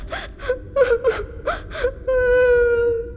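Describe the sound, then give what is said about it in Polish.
A voice cries in a rhythm of short gasping sobs, about six broken bursts, then breaks into a long sustained high wail. No words are spoken. “Płacz, płacz! Nic to ci nie da.”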